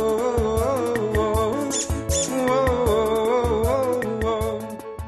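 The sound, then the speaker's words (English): A squeaky dog toy gives repeated high-pitched rubber squeaks, loud over a dense, rhythmic musical backing, with a couple of sharper shrill squeals partway through. “Well, usually they look at the speakers, they check out where the squeaky toy is, they, you know, things like that.”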